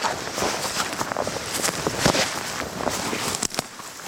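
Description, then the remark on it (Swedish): Footsteps crunching over dry, brittle tussock in the Stormyran mire complex, stepping up from the wet bog onto a bone-dry tussock. A steady crackling rustle with sharper snaps as each step lands, fairly loud and continuous with no voices. “Det är ju från klaffset nere på kärret eller myren upp på den här tuvan där det är egentligen knastertort alltså.”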